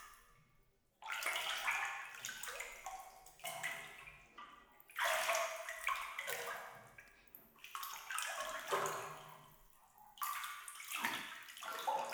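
Warm bath water splashes and pours in repeated bursts as it is scooped and poured over someone's shoulders, each wash lasting a couple of seconds with brief pauses between. No one speaks.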